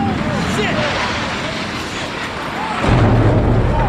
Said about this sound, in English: A huge explosion now raining debris on all of us. We better get out of the way.